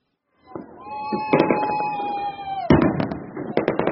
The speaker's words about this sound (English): Unofficial fireworks filled the air over Inglewood and the newly minted SoFi Stadium after the Rams come from behind win.